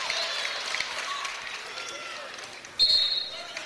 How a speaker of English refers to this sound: And then we got a whistle and a timeout, I believe.